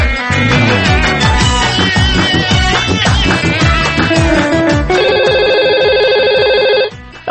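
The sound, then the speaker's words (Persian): A telephone rings with an incoming call, a loud electronic ringtone of repeating tonal bursts, shifting into a steady high buzzing trill for the last couple of seconds before cutting off. “تلفن داریم، تلفن داریم.”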